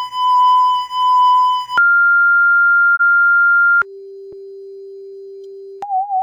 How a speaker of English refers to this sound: I was listening to an album by a female Japanese performer, …, which is basically sine waves and silence